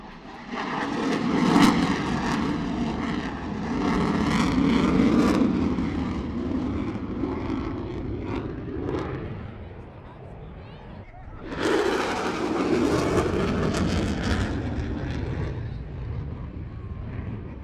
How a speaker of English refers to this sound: Heard come past an F-18 Super Hornet, and that's one of the more modern planes you've seen today.